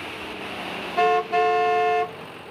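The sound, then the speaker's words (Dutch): A bus hums along with a steady engine and road rumble, then its horn sounds twice: a short honk followed right away by a longer, loud blast. “En daarna met de bus.”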